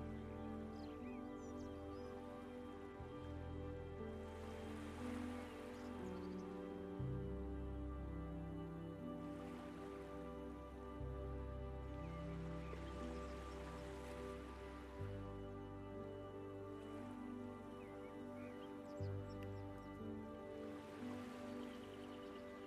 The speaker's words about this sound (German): Höre die Wellen des Sees, die kommen und gehen, das sanfte Plätschern am Ufer. Höre den Geräuschen einfach nur zu.